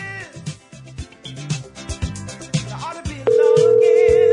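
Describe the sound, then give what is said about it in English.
A few seconds of busy, music-like sound give way to a steady electronic telephone ringback tone, loud and unbroken as an outgoing call placed by The Drew and Mike Show for an interview begins to ring. “It's on the phone.”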